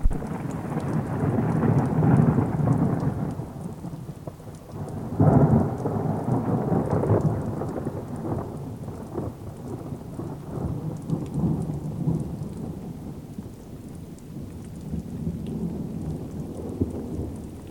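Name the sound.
thunderstorm with torrential rain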